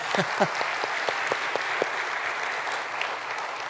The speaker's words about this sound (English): That's how you get out of an awkward applause right there.